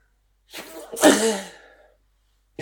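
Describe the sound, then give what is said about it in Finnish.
A single loud sneeze by a person with a kitten in their lap: a brief sharp inhale followed by an explosive burst that trails off, then silence. “Oli kissan pentu herkkuules tässä sylissä, ja mä vittyn aivasta ihan täysin”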